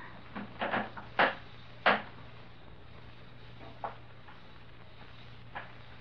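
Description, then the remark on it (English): Wooden floorboards creak and knock in a handful of short, irregular bursts as someone steps and stops right outside a room's door, two sharper ones early on, then a few faint ticks spaced apart over a quiet, steady low hum. “I heard a board creak.”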